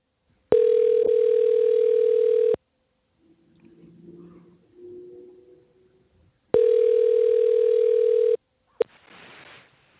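A steady telephone ring tone sounds twice, each about two seconds long, as a radio studio calls a guest's mother, with quiet rustling and faint murmurs between them and a brief noisy burst at the end.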